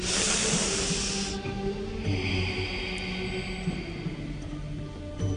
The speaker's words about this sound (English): We are starting with the breathing. Take a deep breath and exhale through the nose.